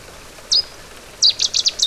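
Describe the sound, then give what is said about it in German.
A Cetti's warbler bursts out with a single sharp call, then a loud, rapid run of ringing, explosive notes over a faint steady background hiss, beside a small brook in the rain. “Der Vogel der Woche, der Seidensänger, hat im Übrigen auch innerhalb dieser lauten Strophe durchaus individuelle Unterschiede.”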